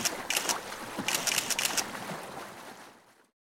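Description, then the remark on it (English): A boat moving along a river in Paris, France, with steady rushing and splashing water and a few brighter sloshing bursts early on, before the sound fades out. “I'm on a boat. I can see the river and trees and houses.”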